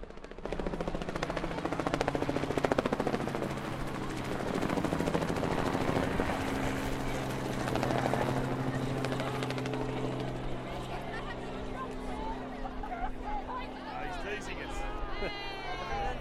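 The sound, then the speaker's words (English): A helicopter roars overhead at a large event, about to drop sponge balls over the crowd, with a steady, pulsing rotor chop and engine drone that fills the scene, while crowd noise and voices murmur underneath. “This is there's a helicopter about to fly over everyone at the mega event, and it's about to drop, I think it's 300 sponge balls, 200 sponge balls”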